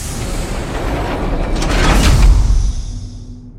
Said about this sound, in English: The Klingon drags the man out of the cell by his foot. Lorca stares as the barred door slams.